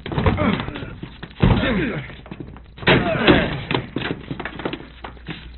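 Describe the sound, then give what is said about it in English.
Heavy thuds and a crashing slam as a door is forced and broken down, with a few loud impacts and splintering noise over strained voices and grunting effort. “Let's get this door open. Break it down.”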